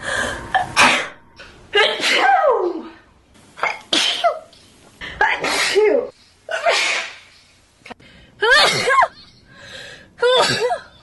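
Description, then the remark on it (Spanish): A woman sneezes over and over, around seven loud sneezes in a row, each a sharp burst with a voiced 'choo' and brief pauses between them. “Quita todo y solo déjala estornudando.”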